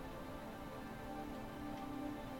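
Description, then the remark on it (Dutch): Steady, dense hiss of very heavy rain coming down outside, a soft, continuous wash with no pauses and no voices. “En terwijl ik deze meditatie opneem, regent het buiten enorm hard.”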